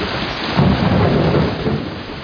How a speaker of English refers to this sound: And then there was the rain.